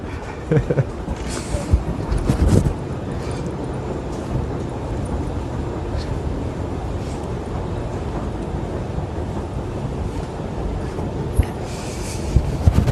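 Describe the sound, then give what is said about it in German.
A loud, steady rumble of a train fills an underground station, with a constant low roar and brief clanks and rattles on top and no talking. “Ich sehe gerade, ich habe gar keine Maske auf, obwohl ich im U-Bahn-Bereich bin, werde ich mir gleich mal überstülpen.”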